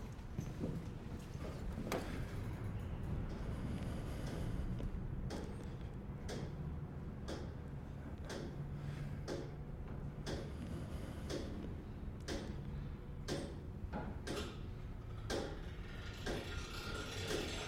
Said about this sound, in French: Donc là, vous entendez que l'horloge. Vous avez le tic-tac qui bat la seconde. Et là, tac, toutes les 20 secondes, c'est le mouvement qui s'échappe. La force qui s'échappe. Vous avez entendu le clic ?